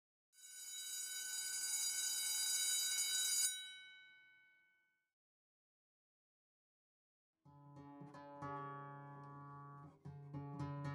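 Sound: school bell ringing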